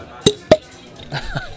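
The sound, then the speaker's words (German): Two sharp clinks of beer glasses touching as two friends toast over a cold beer, about a quarter second apart, followed by a brief murmur of voices. “Darauf stoßen wir erstmal an, komm.”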